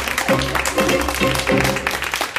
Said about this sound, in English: To only about the sound of two or three people clapping. But that's partly because the credits only last about 15 seconds.